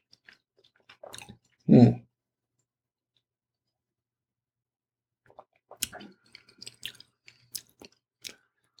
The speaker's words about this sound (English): But I have to chew my meat 30 times, right? Isn't that what my mom always said? I chew the meat 30 times. Well, I'm not counting.